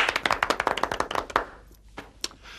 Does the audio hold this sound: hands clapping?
yes